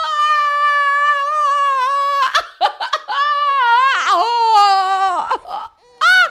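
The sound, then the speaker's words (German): A newborn baby cries loudly, in long, high-pitched wails broken by a few short catches of breath, with a final brief cry at the end. “Guck mal, das Baby ist da. … ist geboren.”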